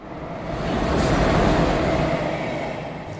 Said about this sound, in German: Ich freue mich sehr, dass wir zusammen Bahn fahren. Jetzt von Berlin nach Hamburg.